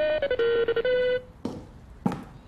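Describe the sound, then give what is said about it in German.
A telephone rings with a short, bright melodic ringtone of a few stepped notes, loud, then cuts off, followed by a couple of sharp clunks like the handset being picked up. “Ihm würde noch eine Menge mehr einfallen, würde in diesem Moment nicht sein Telefon klingeln.”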